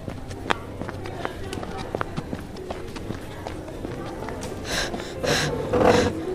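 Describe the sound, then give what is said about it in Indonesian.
Quick, irregular running footsteps patter for several seconds, then give way to three loud, heavy, breathy pants near the end. “Sampai ngos-ngosan begitu?”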